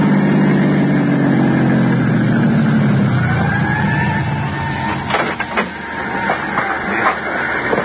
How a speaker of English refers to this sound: Thanks to an ambulance that pulled away from the curb and headed south toward town, I found a parking space.